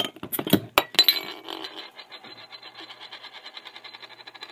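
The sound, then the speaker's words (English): A bottle of Five Points Brewing Company's Railway Porter, a 4.8% black porter, is opened with a burst of sharp glassy clinks and clicks, then a soft, steady, rhythmic fizzing pours on for several seconds. No one speaks. “Let's get it open.”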